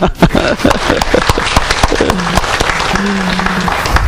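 A crowd breaks into loud, steady applause, dense clapping that carries on for several seconds at an even level, with a faint hum and a few voices mixed underneath.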